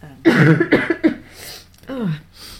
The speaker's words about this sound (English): And I think you held up, considering you've still got a bit of a cough,